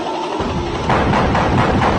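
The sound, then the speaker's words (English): Three heavy, evenly spaced knocks thud against a door in the middle of the night over a dense, steady wash of background noise, with no voices. “All of a sudden, in the middle of night, there's a loud knock on your door.”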